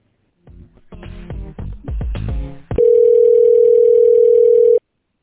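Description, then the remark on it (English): Clattering handling noises and clunks of a phone being picked up while switching phones during a call, then a steady, loud telephone dial tone hums continuously for about two seconds before cutting off abruptly. “I just want to switch out the phones.”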